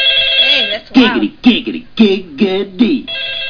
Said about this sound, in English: Let's see, go to ringtones for you.